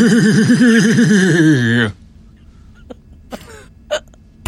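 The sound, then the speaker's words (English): A person imitates a horse whinny: a loud, high, quavering vocal warble that shakes rapidly in pitch for about two seconds, then stops abruptly, leaving near-silence broken by a few faint clicks and breaths. “was that a whinny? Because it sounded a lot like a neigh.”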